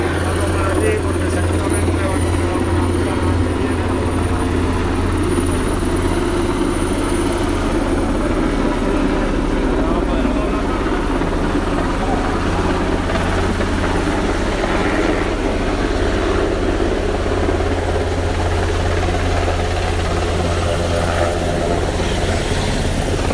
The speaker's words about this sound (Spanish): Porque es un Super Puma, de los cuatro Super Puma de los que disponemos en el Infoca.